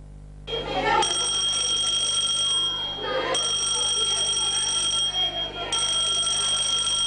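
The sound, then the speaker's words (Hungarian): A loud electric school bell rings continuously in long bursts, with two brief pauses, its harsh metallic tone sounding as a fire alarm in a simulated fire drill for pupils at a school in Balmazújváros, over faint background noise and murmuring voices. “Az iskolai csengő nem csak a szünetet, hanem a bajt is jelezheti.”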